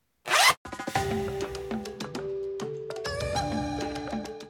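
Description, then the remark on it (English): A single quick zip, like a backpack being zipped shut, followed right away by a short, bright musical jingle of sustained melodic notes. “Go ahead and zip up your belief backpack now so those lessons stay safe with you.”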